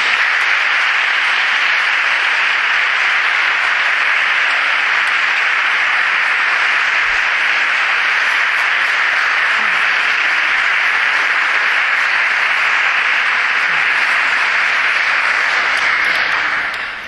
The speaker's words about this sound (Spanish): Así que sin más preámbulos, demos paso de un gran aplauso al gran pregonero de este año,